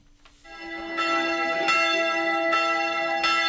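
The bell of Karanovac Monastery, a Serbian Orthodox monastery on Kozara, rings repeatedly in a steady rhythm, calling the faithful to prayer at the consecration of the church of the Dormition, each bright metallic strike overlapping the long shimmering hum of the previous one, loud with no voices.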